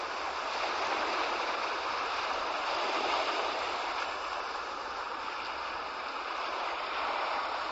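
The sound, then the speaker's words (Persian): Ocean waves wash steadily against a seashore in a continuous, even hiss of surf, played as the Infinite Shoreline ambient track in a sound app, with no talking and no distinct breaks between the waves. “یکی رو مثلا باز میکنم، ساحل دریاست.”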